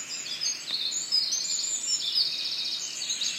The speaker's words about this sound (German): Stille, nur das gelegentliche Rauschen der Blätter und das Zwitschern der Vögel.